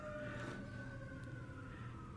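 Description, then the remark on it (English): A police car siren wails with a sustained high tone over low traffic rumble, fairly loud, with no one talking. “We didn't dance to police sirens.”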